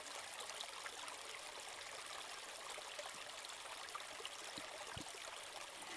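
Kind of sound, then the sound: nature, water draining away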